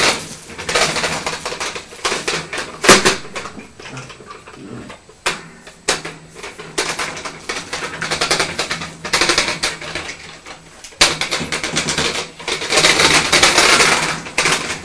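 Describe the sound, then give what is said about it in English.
A toy train rattles and clatters with dense, uneven plastic clicking and knocking, loud and busy throughout, with a few sharper clacks and brief pauses between bursts. “Why don't you get to her and show her the train?”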